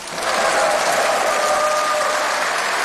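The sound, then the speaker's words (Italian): A large assembly in the European Parliament bursts into sustained applause announcing the re-election of Ursula von der Leyen as President of the European Commission, with 401 votes in favour. Many hands clap in a dense, steady roar that swells quickly and holds loud throughout, with faint voices mixed into the clapping. “Un applauso per annunciare la rielezione di Ursula von der Leyen come presidente della Commissione europea.”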